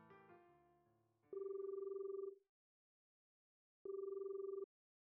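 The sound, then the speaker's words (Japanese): A phone line rings back as a call is placed to a butler: two buzzy, steady ringing tones about a second each, separated by a pause of silence, clear with no one talking. “そうと決まれば早速執事に電話をしませんと。”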